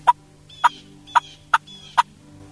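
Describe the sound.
Five sharp, clipped turkey putts or clucks made on a mouth call, evenly spaced about half a second apart, fairly loud over a faint low hum, with no talking.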